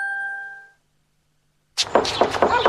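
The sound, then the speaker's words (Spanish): A single bright chime rings and fades, then after a brief silence comes a quick burst of loud, sharp knocks on a door, about five raps in rapid succession. “¡La puerta! ¡Sí, yo voy! ¿Quién es?”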